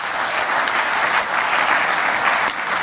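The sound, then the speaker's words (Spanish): A church audience applauds the Lord steadily, a dense wash of many hands clapping at once with a few sharper claps popping out, loud and continuous with no voices over it. “O alguien dele un aplauso fuerte al Señor.”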